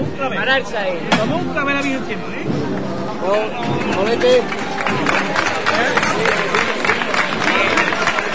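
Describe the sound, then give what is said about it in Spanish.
A crowd applauds outdoors in the Plaza del Clavo on Palm Sunday night for the costaleros (float bearers) of the Virgen de la Estrella float, a dense wash of clapping mixed with cheering and overlapping voices, loud, continuing steadily throughout. “El aplauso merecido para los costaleros de la Virgen de la Estrella.”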